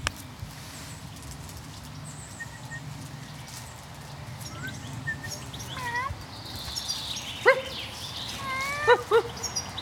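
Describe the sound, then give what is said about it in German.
Songbirds, among them blackbirds, thrushes and finches, chirp and whistle in short, scattered calls that grow busier and louder toward the end, heard over a steady low outdoor rumble with no one talking. “Hier so aus Amseln, Drossel, Fink und Stadtrepp. Treffen sich hier.”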